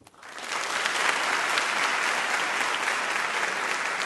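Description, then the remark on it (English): An audience at an Intelligence Squared U.S. debate in Chicago gives a round of applause on cue for radio editing, a dense, steady wash of many hands clapping that rises quickly and holds at full loudness for about four seconds, with no voices standing out. “So when I raise my right hand, if you can just do a round of applause like before.”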